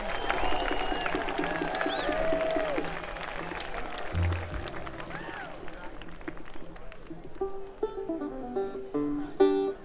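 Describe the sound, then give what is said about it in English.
A crowd at a bluegrass festival applauds the Planet Bluegrass organizers loudly and steadily, with cheers and a few high whistles over the clapping; the applause thins toward the end as scattered tones and murmuring take over. “Give them a nice big round of applause.”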